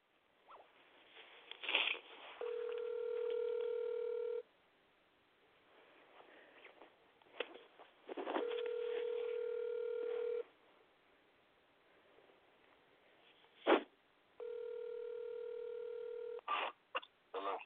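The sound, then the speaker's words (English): A phone call to a radio show host rings three times, each long, steady tone lasting about two seconds with even pauses between, accompanied by faint scratchy rustling and a few clicks. No one speaks. “Yeah, yeah, you just called my phone 3 times back to back.”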